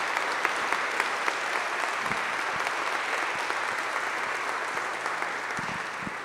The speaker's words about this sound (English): Thank you so much for each and every one of you who are here. If you'll please join me in celebrating our youth right now, just in applause.